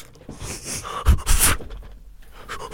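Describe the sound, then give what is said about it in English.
A voice imitates heavy panting while acting out a goalie drill, a series of breathy huffs and puffs with a louder burst of rapid, airy breaths in the middle before trailing off into softer exhales. “He sounds out of breath doing that.”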